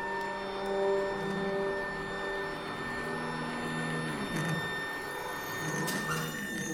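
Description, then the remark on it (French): Telescope drive motors whirring steadily as they slew the telescope to center a star in the finder, a sustained mechanical whine of several layered tones that shifts briefly midway, with a few faint clicks near the end and no voices. “Donc là, c'est plus avec les mains, mais c'est les moteurs qui vont agir pour centrer l'étoile sur le chercheur.”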